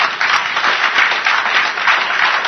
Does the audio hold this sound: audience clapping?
yes